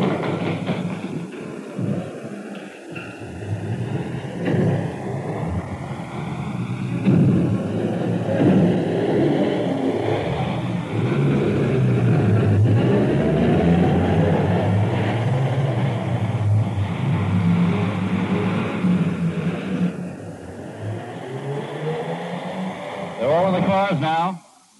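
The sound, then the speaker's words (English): Engines of an ambulance and a car from a London civil defence post rumble and rev loudly as the vehicles start up and pull away, responding to an air raid warning and sent to 114 High Street; a steady motor roar lasting throughout with a brief rising whine near the end. “One ambulance, one car, 114 High Street.”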